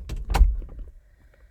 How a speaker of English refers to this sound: What? Aggressive? That's just my normal knock, you fool.